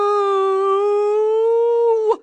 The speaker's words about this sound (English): Comes a howl of anguish. No! Stop! You have to stop! To my horror, the girl runs up onto the plinth and starts trying to push the coffin back.